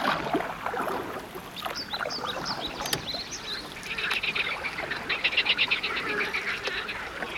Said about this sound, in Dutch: Kijk, dat klinkt al een heel stuk beter. Oh, wat een vrolijk gekwaak. Het lijkt wel een heel orkest daar tussen het hoge riet.